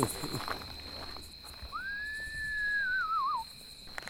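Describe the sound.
A person imitates a screech owl at night with a single whistled call that holds a steady pitch, then wavers and slides downward at the end, over a faint steady drone of crickets and katydids.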